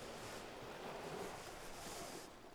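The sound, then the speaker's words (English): Ocean waves wash ashore in a steady, hissing rush of surf, swelling slightly before easing off, continuous, with a hint of wind and no voices. “I can feel this intense longing. I need to pull myself closer to the waves.”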